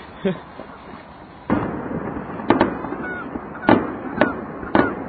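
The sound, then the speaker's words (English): Fireworks burst outdoors in a series of sharp, loud bangs at irregular intervals, each echoing into a rumbling wash of background noise. “What other radio program brings you fireworks?”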